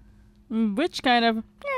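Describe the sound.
A human voice imitates a cat, letting out two drawn-out, rising meows, with a brief breathy burst between them and another starting at the end.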